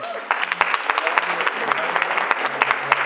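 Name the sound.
audience clapping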